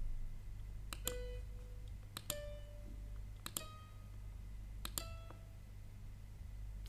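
Four pairs of crisp keyboard or mouse clicks, spaced about a second apart, each followed by a short electronic musical note, over a quiet low hum with no talking, as someone types 4 and enters four eighth notes in music notation software.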